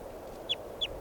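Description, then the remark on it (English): Two short, high-pitched bird chirps, each sliding slightly downward, spaced about a third of a second apart over a steady low background hum. “This is bird 600.”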